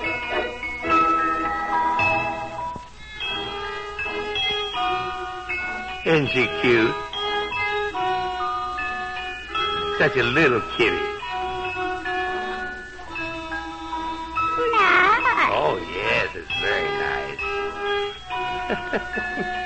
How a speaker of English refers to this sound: You know, Midnight the Cat... wants to play her cigar box fiddle for us today. Midnight plays... Nice. Oh, of course it's nice, Midnight.